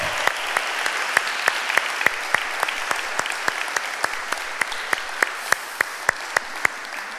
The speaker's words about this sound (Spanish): Da un aplauso al Señor, no te pongas triste. Un aplauso al Señor.